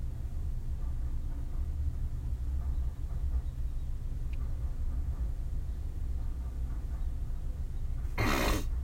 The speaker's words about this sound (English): Fucking train, man. I'm trying to talk about other stuff instead of getting mad about this train, but. Oh my god, how long are you? I'd say that's what she said, but nobody ever said, no she ever said that to me. Fucking trains.